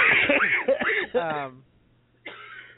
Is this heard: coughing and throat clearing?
yes